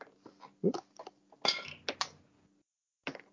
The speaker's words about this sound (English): I rolled a dice in order to figure it out.